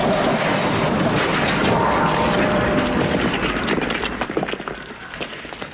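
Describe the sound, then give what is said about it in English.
A double-decker bus, speeding towards the Brunswick Industrial Estate, crashes into an extremely low overhead bridge: a loud, sustained crash of grinding and crunching metal roars for about four seconds, then breaks into scattered clattering bangs as the wreckage settles and fades. “Right in front of us, you can see an extremely low overhead bridge.”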